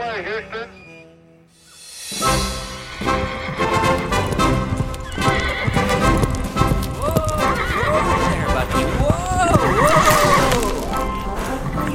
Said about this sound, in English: Such a good horse, Bucky. Okay, let's try a trot.